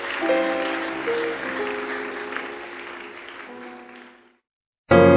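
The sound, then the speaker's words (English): The Koinonia audience claps steadily together to honor a departing group, with sustained musical tones underneath. The clapping gradually fades out after about four seconds, then a short silence is broken by a sudden loud burst of sound. “Let's keep clapping.”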